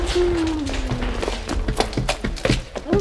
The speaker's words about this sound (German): Hier! Hier klopft jemand an die Tür.